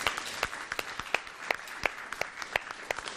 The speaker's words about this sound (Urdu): حاضرین حوصلہ افزائی کیجیے گا ان کی تالیوں سے.